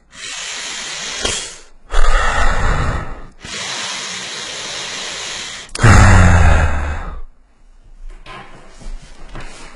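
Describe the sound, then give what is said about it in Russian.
Heavy breathing blown straight into a microphone, producing loud, rumbling gusts of air in several long inhales and exhales separated by brief pauses, with no talking. “Мне нравится, как вы слышите, как я дышу.”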